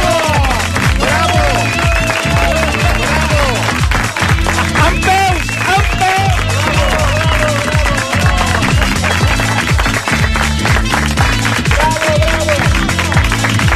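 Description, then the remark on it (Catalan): A studio audience breaks into loud, sustained applause, an ovation of honour for TV presenter Toni Rovira, filling the whole stretch, with whoops and a musical backing running underneath the clapping. “Una ovació d'honor que s'acaba d'endur el Toni Rovira, eh?”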